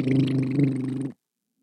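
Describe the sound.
A father blows a loud, buzzy fart noise with his mouth as a comedy bit for his child, one sustained low rasping blat lasting about a second before cutting off abruptly into silence.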